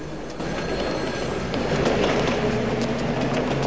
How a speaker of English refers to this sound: The tram pulls up.